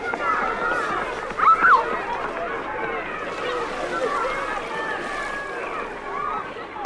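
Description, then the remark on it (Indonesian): Steady wash of waves breaking and splashing on a black sand beach, a continuous rushing noise throughout, with people talking over it in the foreground. “Indahnya, pantai ini sangat menawan hati. Pasir hitamnya, panoramanya indah, dan suasananya masih alami.”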